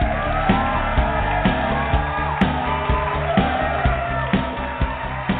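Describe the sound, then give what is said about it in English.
The studio audience of Rated G Radio, live from Hollywood, cheers loudly and steadily, with whoops and shouts rising over a dense roar and a regular rhythmic pulse underneath, sustained throughout. “Thank you, everybody, for that wild round of applause.”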